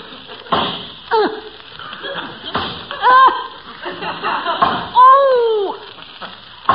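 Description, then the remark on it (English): An axe chops into a tree to fell it, striking in different places rather than the same spot, in a series of sharp, irregular wooden thunks, with a man's strained grunts and vocal sounds rising between the blows. “Why don't you keep chopping in the same place all the time?”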